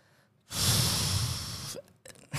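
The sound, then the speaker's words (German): A person gives a loud, breathy snort-like exhale lasting over a second in reaction to a football team's home jersey, then a short pause and the start of a second forceful breath. No talking. “Also ich sag dir ehrlich, 2 große Schnauffer, also wird schwierig.”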